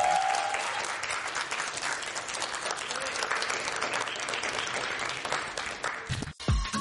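A crowd breaks into sustained applause for Deion Lewis, dense clapping that stays steady and fairly loud for several seconds before cutting off abruptly near the end.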